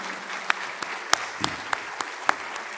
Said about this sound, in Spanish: ¿Cuántos le dan un aplauso? Amén.